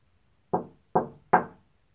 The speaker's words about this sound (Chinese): 几分钟后，我听到了敲门声。